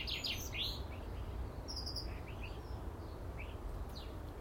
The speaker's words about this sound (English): And the bird song.